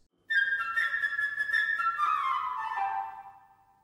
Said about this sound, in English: Each character in this tale is going to be represented by a different instrument in the orchestra. For instance, the bird will be played by the flute, like this.